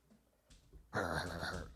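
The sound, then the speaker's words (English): Dogs Liberty and Duchess, a big dog and a smaller one, at play with their toys: after a quiet moment, a sudden loud burst of squeaky, whiny sound continues steadily to the end, with no talking. “Those dogs have to go back out again.”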